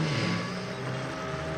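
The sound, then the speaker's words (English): A car engine runs with a steady, droning hum as Mary's car drives up, its level holding even throughout the short stretch with no voices. “Mary's car drives up.”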